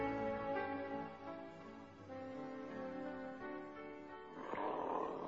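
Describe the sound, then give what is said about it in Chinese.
A hungry wolf growls loudly as it lunges at an old man, a deep rumbling snarl that holds for several seconds and swells into a harsher burst near the end. No voices. “这时候野狼饿了，就向老公公扑过去。”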